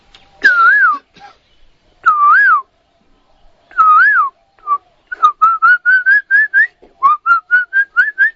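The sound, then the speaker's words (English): A person whistles an imitation of an Asian koel: three rising-falling drawn-out notes, then a fast series of short ascending whistled notes repeated in two bursts, clear. “But you'll hear this kokila.”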